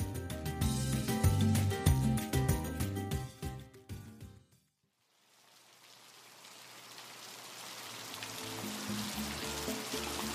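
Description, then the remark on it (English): Music fades into a brief silence, then a steady wash of heavy rain in Cali swells in and keeps pouring, a dense hiss filling the scene without any voices. “It's pouring rain, but they don't mind.”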